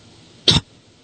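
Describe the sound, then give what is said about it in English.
A single short, sharp cough bursts out, lasting only a moment before quiet returns. No one speaks. “It's muting and coughing”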